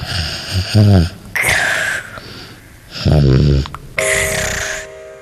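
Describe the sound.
A young child's voice imitates how her dad snores with two drawn-out, rasping snorts, a short pause between them, followed by breathy hissing noises.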